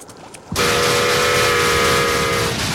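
A model steam train, puffing smoke, suddenly roars in after a brief quiet moment and barrels through a quaking model layout past a covered bridge, a loud steady rushing rumble with a sustained whistle-like tone riding over it until the end.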